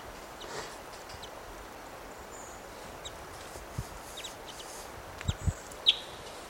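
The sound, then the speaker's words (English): Sparse, faint calls of birds fighting and interacting in a low tree, over a soft steady hiss. A few brief high chirps are scattered through it, and a cluster of low thumps and scuffles comes near the end. “These birds are fighting and interacting in this low tree.”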